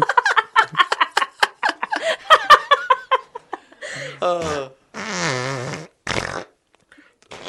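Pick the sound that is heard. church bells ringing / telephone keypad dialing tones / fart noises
fart noises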